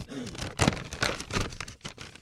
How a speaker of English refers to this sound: Sorry. Just uncrinkling his paper.